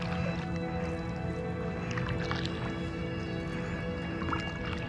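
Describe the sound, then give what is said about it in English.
Paddle strokes dip into water beside a small boat being paddled around a large motor vessel aground in a bay, with soft sloshing and splashes over a steady, continuous background hum, moderately loud with no voices. “I paddle around it to have a look.”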